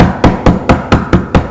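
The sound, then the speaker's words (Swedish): Repeated knocking on a wooden surface, seven sharp, evenly spaced raps in quick succession, loud with no voices. “Vi skulle faktiskt knacka tills dörren öppnades.”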